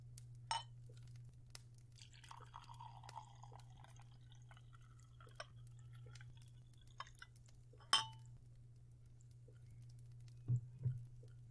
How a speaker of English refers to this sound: I've got a lovely elixir of my own making here in the decanter that I'm going to pour for you.